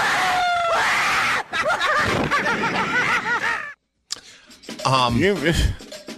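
Several people on a ride shriek and scream in overlapping bursts, high and strained, with a brief pause before another wave of wailing, chaotic yells.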